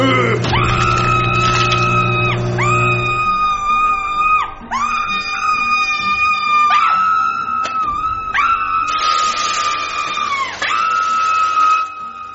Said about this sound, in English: what's all that screaming about? If you burnt the taquitos, we can always just get Uber Eats.